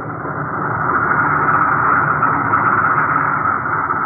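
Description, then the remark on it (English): A bomber's engines, as it rolls off an assembly line in Siberia, drone in a steady, loud, low roar that holds an even level for the whole stretch, with no voices over it. “Take it away. Roll out the next bomber. Here's the way. Another bomber coming off the line.”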